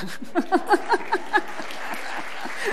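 A group applauds a reader after a Bible reading, a steady, crackling clatter of many hands for a few seconds, joined early on by a quick run of six short, pitched vocal-like notes.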